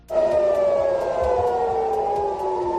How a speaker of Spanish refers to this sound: El lanzamiento del misil ha hecho que se escucharan las sirenas antiaéreas en Tel Aviv.